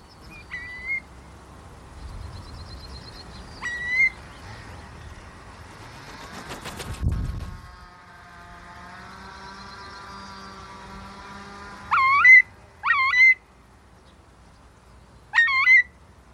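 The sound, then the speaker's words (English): A curlew, a wading bird, calls in a field in heavy rain, giving a series of short, rising whistled calls: two single calls early, then a quick cluster of three near the end, over the steady hiss of rain with a brief low thump midway. “And I've never seen a curlew do that before.”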